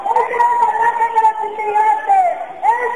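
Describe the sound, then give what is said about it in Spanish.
Shouting from a protest demonstration outside, of more than 1,000 people, heard live over a telephone: voices hold long, loud, wavering cries that merge into one continuous chant-like wail lasting the whole stretch, with a brief dip and swell near the end. “Mira, queríamos que escucharais el sonido de la manifestación de fuera, ya que por las paredes no podéis, a través del teléfono, que escuchéis el sonido en directo de la manifestación.”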